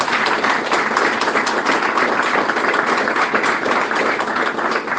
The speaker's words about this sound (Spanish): no está con nosotros porque vive en el interior, pero bueno, vamos a darle fuerte un aplauso.